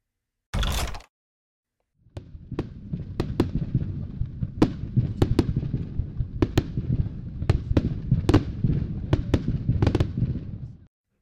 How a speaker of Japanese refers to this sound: どうですか？見たかったんでしょ？花火。